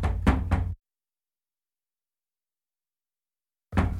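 Three quick, solid knocks on a door, followed by a few seconds of silence before another round of knocking begins.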